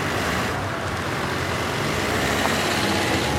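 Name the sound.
getting into a car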